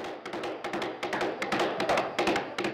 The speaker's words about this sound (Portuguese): Só que antes de chegar perto do noivo, ouve o som de um cavalo em disparada.